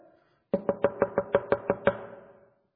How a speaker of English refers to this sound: I'm keeping on knocking.